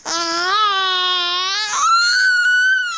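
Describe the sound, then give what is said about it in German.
A baby wails in one long, loud cry that breaks sharply upward into a piercing, high-pitched scream. There is no talking. “Auf Platz Nummer 3, Babygeschrei.”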